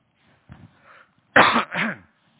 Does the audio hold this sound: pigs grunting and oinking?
no